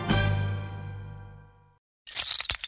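A sustained, humming musical tone fades into a brief silence, then a sudden burst of sharp, bright crackling breaks in as glass cracks and splinters, loud and jagged to the end.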